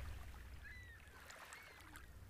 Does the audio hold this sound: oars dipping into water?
yes